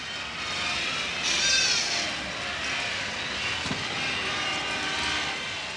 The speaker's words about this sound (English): Ladies and gentlemen, it's 1 minute to midnight on New Year's Eve in Times Square. Listen to the roar of that crowd.